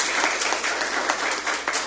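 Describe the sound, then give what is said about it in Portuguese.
A crowd applauds the musical adviser of the Obra Cordai steadily, many hands clapping at once in a dense, continuous patter that stays fairly loud and even throughout, with no voices standing out. “Também uma salva de palmas para ele.”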